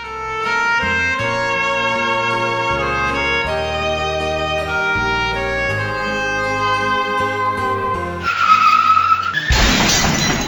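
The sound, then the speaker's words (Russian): Melodic music plays for several seconds, then cuts to a sudden screech of car brakes followed by a loud, noisy car crash and harsh metallic grinding in the final two seconds. “проснулся от резкого скрипа тормозов. Еще не успев открыть глаза, он почувствовал сильный удар и скрежет металла.”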